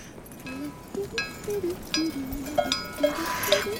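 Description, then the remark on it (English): Bells on pack mules jingle unevenly as a hiker walks beside the mules, a steady stream of overlapping metallic clinks and ringing tones that rise and fall in loudness, with low outdoor rumble beneath and no talking. “Can you guys hear those bells? Guess what I'm walking next to? Mules!”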